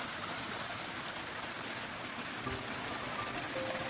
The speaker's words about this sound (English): The waterways, streams, and rivers all meander gently down to rest briefly at ponds and lakes before continuing their journey toward the River Derwent. Their journey is one of such splendid sounds.